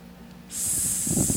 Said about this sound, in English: The hiss of the oxygen.